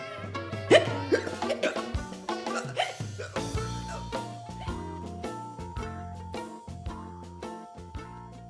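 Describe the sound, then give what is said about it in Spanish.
A steady run of short, voiced hiccups, one after another in a quick, bouncy rhythm, fairly loud, with tonal, musical-sounding accents woven through. “Ay, disculpen, amiguitos. Nos dio hipo.”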